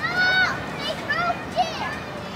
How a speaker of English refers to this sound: The sound of all the kids laughing and screaming is so joyous. It doesn't sound like nails on a chalkboard at all.